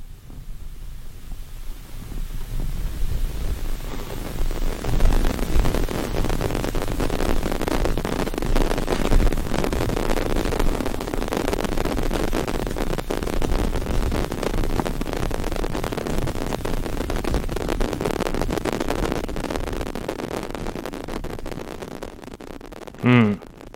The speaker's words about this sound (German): Nun ja, das ist Rauschen.